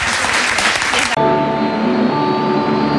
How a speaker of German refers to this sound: Vielen, vielen Dank und das ist euer Applaus.